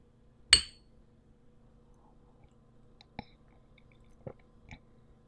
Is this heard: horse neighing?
no